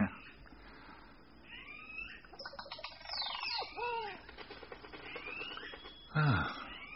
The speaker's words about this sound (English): Oh, that's some bird they've recorded. Certainly is peaceful.